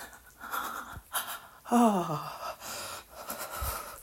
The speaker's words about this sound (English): My breathing is literally in that shaky state prior to when I come for like the last 2 or 3 days.